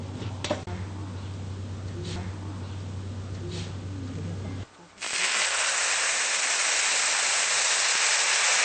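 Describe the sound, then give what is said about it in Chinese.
A low steady hum with faint crackling gives way to a sudden loud, sustained hissing sizzle as boiling water is poured into a hot pan over high heat, up to half the height of the flatbreads in it, the bright steamy roar continuing to the end. “好，现在我们把它开大火，现在我们加点开水吧。”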